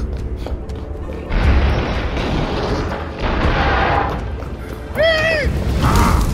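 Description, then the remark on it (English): Heavy explosive blasts from a flaming catapult attack roll in three loud waves, each a broad rumbling burst, with a short rising tonal cry cutting through near the end. “Orin, attack! Flaming catapult!”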